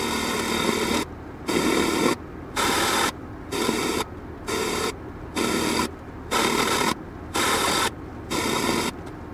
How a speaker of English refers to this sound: I had a boombox with me because I had no radio in the car, and I was tuning to find radio stations and finding absolutely nothing, and that went on for a good 10 minutes, so we just have a few seconds of that.